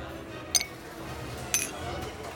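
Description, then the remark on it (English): Two bright glass clinks about a second apart, each with a short ringing tone, as friends touch champagne glasses in a toast over a low murmur of background chatter. “At first, he refused their offers of alcohol, but eventually, he gave in and raised a glass of champagne with his buddies.”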